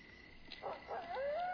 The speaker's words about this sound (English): What was that? It's just a coyote.